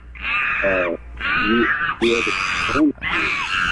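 An upset monkey in a laundry room screeches in four loud, shrill bursts, each about a second long with brief gaps between, the harsh high-pitched cries wavering and rising.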